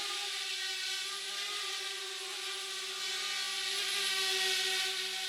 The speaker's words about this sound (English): That's where all the drone action takes place. We are going to learn all about how these little flying machines, sometimes no bigger than the palm of your hand, go from the lab to the skies in perfect synchrony.